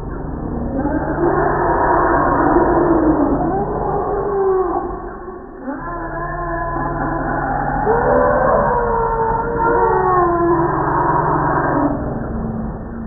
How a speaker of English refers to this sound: Lots of roaring and rumbling and trumpeting going on, overlapping calls. It's just pandemonium. Let me play a clip of the sound of the elephant mating pandemonium.